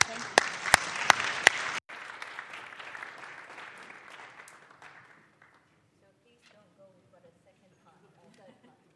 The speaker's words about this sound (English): But thank you again. And let's just give a round of applause to the panelists.